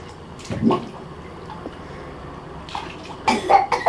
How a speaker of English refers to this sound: Ooh, you're coughing.